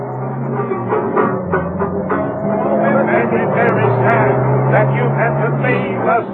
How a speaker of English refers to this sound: It was at that moment that Mrs. Peel heard the car taking off. She could have sworn that someone in the car was singing.